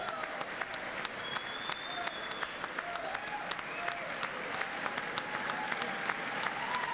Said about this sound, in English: The crowd continuing to cheer.